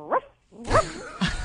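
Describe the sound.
A woman in Bridgewater, New Jersey imitates a dog, giving three short, sharp barks in quick succession, fairly loud, with brief gaps between them.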